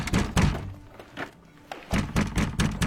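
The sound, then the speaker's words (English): A man knocks heavily on a wooden door: a few thuds with short pauses, then a faster, insistent burst of repeated knocks, loud, with no voices. “You think I don't know how he knocks?”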